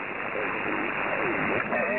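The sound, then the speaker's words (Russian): Dense radio static hisses and crackles continuously during a radio round-table contact, with a thin steady tone held near the top of the band and faint garbled voice-like warbles drifting through the noise. “Тут помеха, тут он тональный стоит, еще эта трещалка стоит.”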